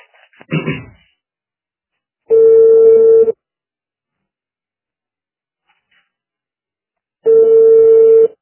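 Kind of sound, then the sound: signal or alarm, telephone ringback tones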